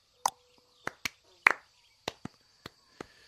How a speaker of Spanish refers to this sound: ¿Hacemos un aplauso de golf? Sí. Cuando metes la bola en golf, que se aplaude muy...